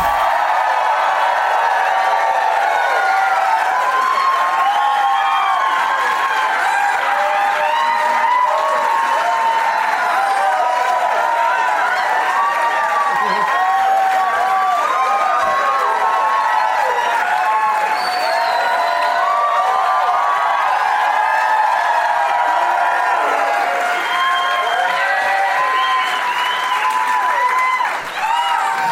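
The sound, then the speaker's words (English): A large crowd cheers, whoops and applauds without letup, a dense, loud wash of clapping and shouting voices that holds steady for nearly half a minute. “All right, you win. You're the best crowd.”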